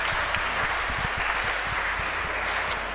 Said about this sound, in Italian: E allora vi lascio con il signor imbruttito, Germano Lanzoni. Un applauso.